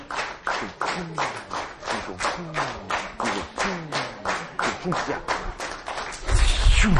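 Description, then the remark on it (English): An audience claps in moral support, one hand up in the air, in a quick, steady run of sharp hand claps, nearly twenty in a row at an even pace, with a voice talking underneath and a louder low rumble at the very end. “And you go, clap, clap, clap, clap, clap, clap, clap.”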